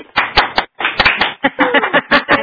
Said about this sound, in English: So with that, if you could please unmute your phones and join me in giving Dr. Archer a round of applause.